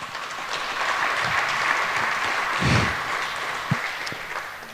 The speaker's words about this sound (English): Thank you very much. Give them a warm applause, please.